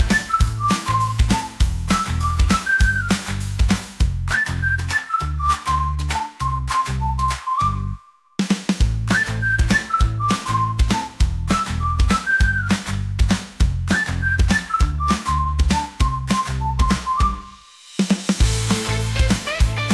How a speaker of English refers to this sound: Hey, it's so neat the sacred whistle is a skill I must teach. Just whistle.